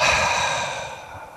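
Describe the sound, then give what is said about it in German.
A long, deep exhalation, breathy, slowly fading over about a second and a half with no talking, released audibly after holding the breath during a guided breathing exercise. “Also wir atmen tief ein, beobachten den Atem, wir bis in den Bauch fließt, tief in den Bauch, dort halten wir den Atem und atmen weit und gut hörbar aus.”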